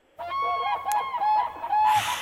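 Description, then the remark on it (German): Geese honk loudly and repeatedly in a harsh chorus of nasal calls, ending with a burst of noisy flapping or rustling. “Die Vögel.”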